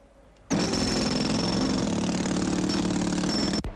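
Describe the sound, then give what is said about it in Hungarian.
A loud power drill starts abruptly and runs at a steady, grinding roar for about three seconds, then cuts off suddenly, drilling into a water main pipe in the street. No one speaks. “Azt én is tudom, apukám, de én ott fúrok, ahol mondják.”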